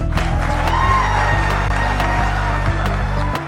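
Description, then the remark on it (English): A crowd cheers loudly and steadily as Governor Ron DeSantis shakes a man's hand, with scattered sharp claps popping out of a dense wash of voices and whoops. “In fact, he just went on to shake the guy's hand as the crowd cheered.”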